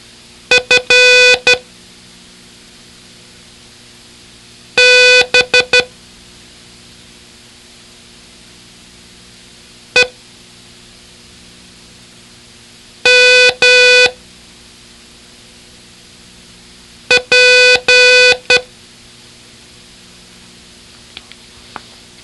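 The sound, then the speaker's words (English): Five separate groups of Morse code beeps sound over a steady hiss, each a different letter in a pattern of short and long tones, one just a single quick blip, with pauses between groups. “The letters sound very different as long and short beeps are combined into patterns.”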